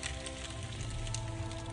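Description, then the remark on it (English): A steady crackle and hiss of a burning torch sound effect from a game, with dense, irregular pops over a low rumbling roar that continues evenly throughout, with no voices. “Torch.”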